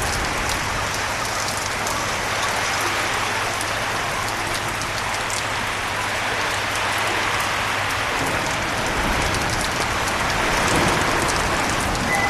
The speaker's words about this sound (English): Now I believe the rain is hitting a pot or something. I'm not gonna go out and check.